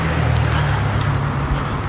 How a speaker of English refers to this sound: Yes, it's because the intersection is dug up. All this traffic is coming in because the intersection is dug up. Let me get around this corner, and I suspect a lot of the traffic will go away.